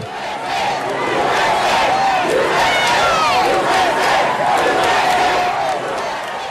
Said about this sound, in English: For example, as we are speaking now, just moments ago, South Carolina removed the flag from the Capitol grounds. I just want to play a short clip of the reaction from the crowd as the flag came down.